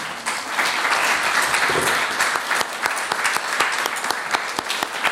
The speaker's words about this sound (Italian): Allora, intanto un bel applauso alla signora.